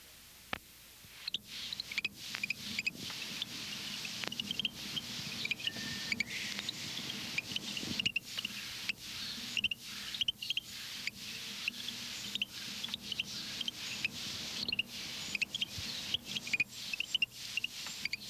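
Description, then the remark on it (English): A Florida frog that lays its eggs on land and has no tadpole stage gives quiet, insect-like chirps: short, high, clicky notes repeating in a steady but slightly irregular stream over a soft background hiss, with no voices. “Its call is a quiet, insect-like chirp.”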